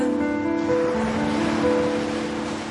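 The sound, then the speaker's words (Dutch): Sea water laps and washes steadily against a quay in a continuous, moderately loud rush, with a faint low hum running underneath and no voices. “Ik kijk uit over de zee.”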